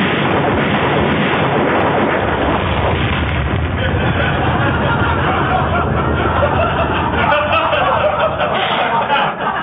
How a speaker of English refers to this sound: Well, did you just blow up our car? Yeah, as a warning to drive home a point to make him listen.